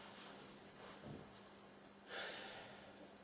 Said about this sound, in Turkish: Tabii derin nefes alıyorum bunu deyince.